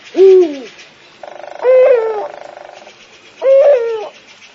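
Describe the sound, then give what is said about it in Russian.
An eagle owl hoots three times in a thicket across a river, each call a deep, slightly wavering note spaced evenly apart, loud, with a faint buzzing trill running softly between the calls. “Ухнул филин недовольно где-то в чаще за рекой.”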